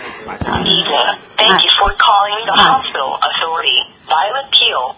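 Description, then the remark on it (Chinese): A voice speaks continuously over a telephone line, thin and tinny with the narrow, band-limited sound of a phone call to a Hong Kong clinic's telephone appointment-booking line, with brief pauses between phrases at a steady moderate level. “嗱、啊、改善来讲呢啊，就这个就是这个电话啦。”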